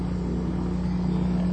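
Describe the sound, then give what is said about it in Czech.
The left engine of an aircraft starting up, heard as a loud, steady low drone with a strong humming tone and a rough rumble underneath, continuous throughout with no voices. “Pokud jste nepoznali, o co se jedná, tak to byl levý motor.”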